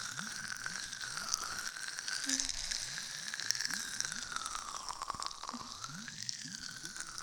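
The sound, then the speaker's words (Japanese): A steady, muffled underwater ambience of sea sounds with soft bubbling and crackling pops, continuous, layered over faint rhythmic crunching rubs of an ear massage; no one speaks. “泡の中で海の音に包まれながら気持ちいい耳のマッサージ普段生活している地上じゃ決して味わえない感覚なのよ。”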